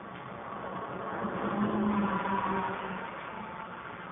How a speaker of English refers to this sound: As you saw right there, the car went off the road to avoid the bus. And the pond is only starts 7 inches from the side of the road. So there's no room for error there.